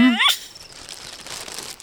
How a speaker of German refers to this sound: Jetzt zerknüllt Bobo eine alte Zeitung zu Papierkugeln. Das kann er gut.